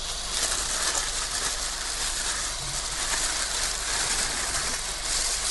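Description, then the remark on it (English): Steady, dense crackling and hissing of mince sizzling in a frying pan, a continuous bright spitting texture at even loudness with no voices. “And you'll probably hear that it's starting to sizzle quite happily now.”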